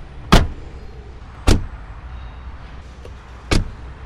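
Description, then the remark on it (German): Three solid car door thumps at uneven intervals, fairly loud, as people get into a 70-year-old driver's car in St. Gallen, Switzerland, for a driving check. A faint click comes in between, with a quiet interior hum underneath. Nobody speaks. “Das dritte Höchst steigen wir in sein Auto.”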